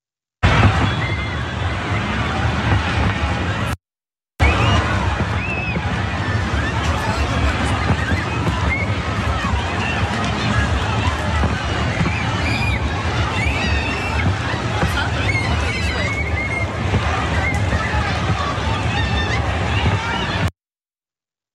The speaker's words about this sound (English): Here's a scene of the crowd fleeing.